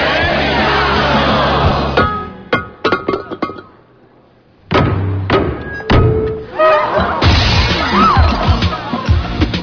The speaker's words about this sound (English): Come on, it's vase breaking time. It's what? It's a tradition. The maid of honor shatters a vase and it symbolizes happiness for the bride and groom. So smash it hard.